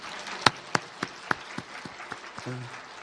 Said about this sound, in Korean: 돈 드는 것도 아니니까 또 노아 할아버지 위해서 박수 한번 박수.